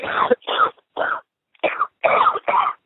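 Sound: coughing and throat clearing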